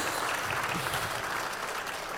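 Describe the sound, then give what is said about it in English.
Scattered applause from a church audience, a steady wash of many hands clapping at moderate volume for a couple of seconds, with no voices standing out. “thank you for that smattering of applause.”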